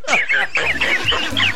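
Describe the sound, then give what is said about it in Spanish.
A chick cheeps repeatedly in quick, high-pitched chirps, fairly loud, with a low hum or rumble underneath. “Tiene como un pollito aquí.”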